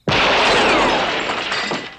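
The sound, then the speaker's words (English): Glass from a street light shatters with a sudden loud crash, followed by a bright tinkling spray of shards that rings on and slowly fades over about two seconds. “The street light is shattered.”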